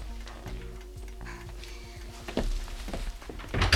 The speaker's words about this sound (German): Und so kam es, dass die Zwillinge kurze Zeit später vor der Tür von Frau Lemanskis Zimmer standen und zaghaft an die Tür klopften.